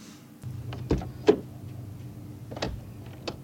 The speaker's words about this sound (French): Parce qu'ils sortent de leur auto à un moment donné, puis ils ferment la porte. L'ouverture, puis ça. Mais il y a comme une effervescence. On attend de la visite ou il y a quelqu'un qui s'en vient.